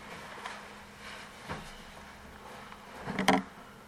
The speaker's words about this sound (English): Scared of a little bee? No, it was like two or three big wasps in the window.